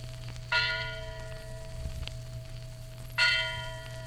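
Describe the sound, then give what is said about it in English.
The Liberty Bell at Independence Hall, Philadelphia, tolls twice, about two and a half seconds apart, each strike ringing out with rich overtones and a long, slowly fading hum over a low background rumble. “At Independence Hall, Philadelphia, hangs the historic Liberty Bell inscribed with these words.”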